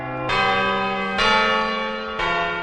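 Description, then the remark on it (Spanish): The clock of the Puerta del Sol chimes three times at a steady pace, each loud, resonant bell strike ringing with bright metallic overtones that linger into the next. No voices are heard. “El reloj de la Puerta del Sol.”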